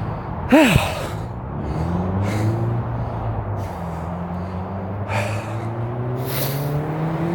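A car drives past on the street, its engine rumbling and droning steadily for several seconds, fairly loud, with a short sharp nasal snort near the start.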